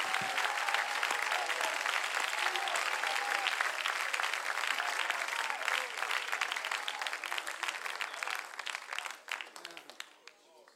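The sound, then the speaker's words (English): An audience at a church service claps hands in praise to God in a dense, sustained burst of applause with scattered voices mixed in, steady and fairly loud before thinning out and fading near the end. “Oh, clap your hands unto the Lord.”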